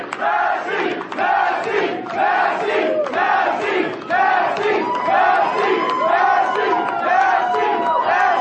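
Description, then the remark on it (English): A large crowd at an election event chants and cheers in a steady, repeating rhythm, loud and sustained for the whole stretch, with many voices blending together and no single speaker standing out. “The energy and crowd difference between the Massey concession and Gowron's acceptance was miles apart.”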